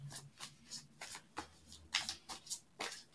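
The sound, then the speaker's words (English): A deck of tarot cards being shuffled before a card pull, a series of quick papery riffles and slaps in an uneven rhythm, with no talking. “Let me give this a good shuffle.”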